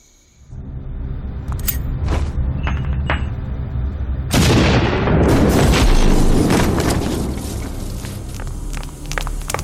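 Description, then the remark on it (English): A Takal grenade explodes with a sudden, powerful blast after a few seconds of low rumbling and scattered clicks, then a long roaring tail full of crackling debris that slowly fades. “That and my last Takal grenade, for which, by the way, I am expecting reimbursement.”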